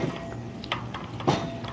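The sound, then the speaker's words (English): Two dull thuds as a neighbour knocks out a welcome mat to get the dust off, spaced about half a second apart, over a steady low background hum with no talking. “It looks like my neighbor's knocking out his welcome mat over there to get all the dust off.”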